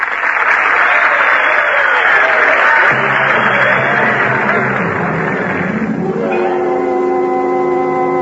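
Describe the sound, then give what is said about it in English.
A large crowd bursts into loud, dense applause after a speech, continuing steadily for several seconds before thinning out as a swell of music rises beneath it and takes over. “Now, for that you can applaud.”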